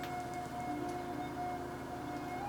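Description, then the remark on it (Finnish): An ambulance siren, from ambulances heading toward the hospital yard in Kalajoki, Finland, holds a steady, piercing tone over a low rumbling background, sounding fairly loud and continuous for the whole moment with no voices present. “Ambulanssit menivät kohti Kalajoen sairaalan pihaa.”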